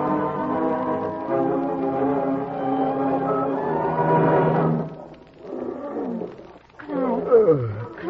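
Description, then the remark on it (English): Several big cats, loose from their cages and fighting, roar and snarl loudly, a long sustained roar giving way to choppy, overlapping growls and yowls like a scuffle, with no pauses between outbursts. “Hey, that's the animals. They're roaring up a storm.”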